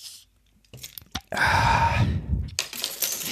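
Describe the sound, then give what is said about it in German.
A few sharp clicks and rattles, then a loud, sustained fizzing hiss lasting about a second as a bottle of Gentle Ginger drink is opened, followed by another burst of hissing. “Das heißt, sollen wir Ginger schon mal eine aufmachen?”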